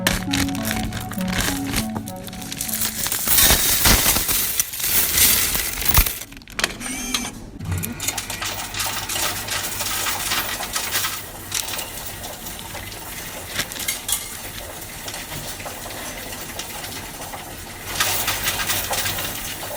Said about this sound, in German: Deswegen sammle ich das in einem Bierhumpen und bringe den, wenn er voll ist, zur Bank und leere dann das Geld in eine Münzzählmaschine rein, die mir das Ganze dann zählt und auf mein Konto überweist.